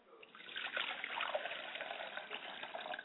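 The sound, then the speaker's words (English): Water pours and splashes steadily onto the ground for a few seconds, a continuous trickling gush with no voices. “Then you pour water to the ground.”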